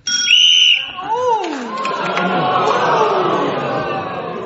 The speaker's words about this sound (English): There was a gap where my buzzer was heard. I think we heard Clement buzz. Came in before the whistle.